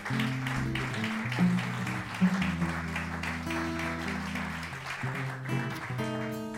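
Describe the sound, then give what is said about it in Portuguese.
An audience applauds the sound crew at a live event, a dense crackle of clapping that holds at an even level throughout, while sustained musical tones play underneath. “Uma salva de palmas para o som, porque o som não nasceu do céu.”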